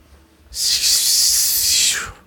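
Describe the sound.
A voice tries to form words but lets out only one long, loud hiss lasting about a second and a half, airy and sharp like a snake, with no words and nothing else around it.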